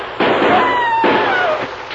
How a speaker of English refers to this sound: Only one man fired, Dan. And I'm sure it wasn't McLean.